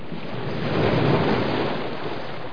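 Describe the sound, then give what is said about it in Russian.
River water laps and washes in a steady, continuous rush, swelling slightly in the middle and easing off, heard alone with no voices. “Сестра Мирьям отнесла его к реке и спустила корзинку на воду.”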